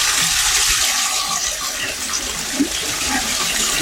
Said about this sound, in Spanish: Toda esta agua, Víctor, que se escucha es bastante. Netamente del brote que sale a flote.